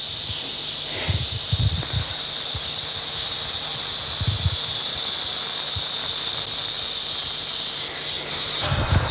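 An eastern diamondback rattlesnake from Florida rattles in a steady, continuous dry buzz that hardly varies for the whole stretch, fairly loud, with a few soft low thumps underneath.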